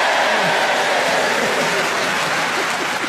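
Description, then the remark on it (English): Hands clap steadily and loudly for about three seconds, a dense, continuous patter of claps with no pauses, like a burst of applause. “Why are you clapping?”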